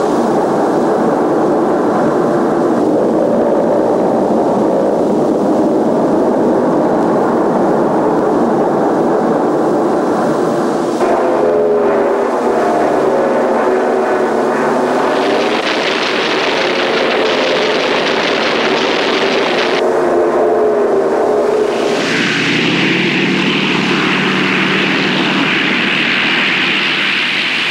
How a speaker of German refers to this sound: Meer um uns herum, nichts als Meer. Der Glaube an unsere beiden Motoren, das beruhigende, stundenlange, gleichbleibende Geräusch ihres Laufes lässt uns diese aufregenden Flüge überstehen.